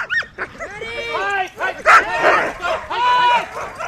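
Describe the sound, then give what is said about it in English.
A pack of sled dog huskies barks and yips excitedly during practice rides around a park, high-pitched yelps and whining cries overlapping in a near-constant chorus, loud throughout. “As the dogs take some practice rides around the park,”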